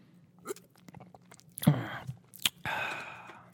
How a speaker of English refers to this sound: Let me sip on this raspberry lemonade.